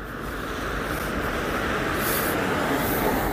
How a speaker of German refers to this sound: Mittlerweile stehen wir vor dem Haus mit der Nummer 12. LKWs und Busse donnern an uns vorbei.